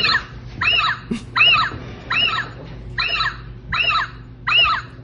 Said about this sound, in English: I ordered an upgraded owl. It arrived. We have taken guesses on what the hoot sounds like. I thought it would be just like an owl, like a hoo, hoo. And you thought it would be more robotic.